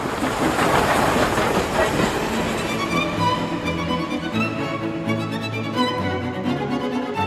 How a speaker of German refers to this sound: Das kleine Dorf, in dem Dvořák geboren wurde, lag an der Eisenbahnstrecke Prag-Dresden. Den Bau der Trasse verfolgte der damals 9-jährige Antonín genau. Als dann die erste Dampflok, die berühmte Eger, an seinem Elternhaus vorbeirauschte